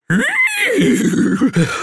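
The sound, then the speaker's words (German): A human voice imitates a horse's contented whinny: a loud, high wavering cry that slides downward into a low, fluttering rumble, lasting about two seconds. “»Das hat ja prima geklappt«, wieherte Sunny zufrieden.”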